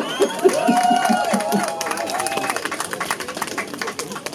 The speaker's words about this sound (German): Aus Dresden. Also mindestens genauso ein Applaus.